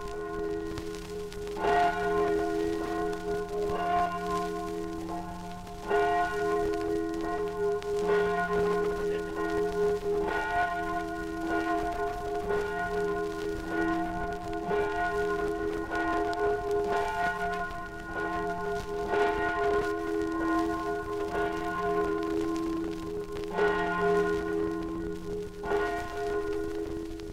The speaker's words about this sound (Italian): malinconie insanabili che il suono della campana di San Giorgio di Resia, la più antica chiesa della valle, riaccende ogni sera nel raccoglimento dell'ave.